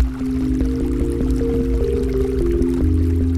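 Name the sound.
trickling water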